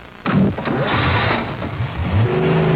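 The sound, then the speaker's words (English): A car engine roars and revs loudly, its pitch rising and falling in surges as the vehicle pulls away, with a steady mechanical drone throughout. “Drive that car away, even if you can't see.”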